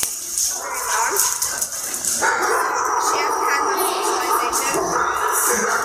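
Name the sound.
dogs barking and yipping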